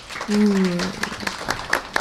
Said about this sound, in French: Pouvons les applaudir.